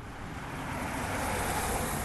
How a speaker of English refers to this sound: It's a car, right? You can tell.